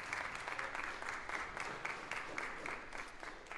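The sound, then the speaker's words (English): Steady audience applause welcoming up the day's speaker, a dense wash of many hands clapping at an even, sustained level with no voices rising above it. “And then while we're all in a clapping and appreciative mood, let's welcome up today's speaker,”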